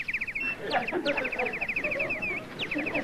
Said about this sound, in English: I'd travel 1,000 miles to see a Canadian crested warbler.